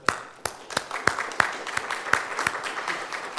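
An audience applauds: a steady, bright wash of clapping with sharper individual claps standing out at a quick, fairly regular pace, moderately loud and with no voices.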